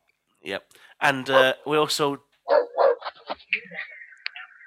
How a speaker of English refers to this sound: We're also joined by someone's dog, for the sounds of things.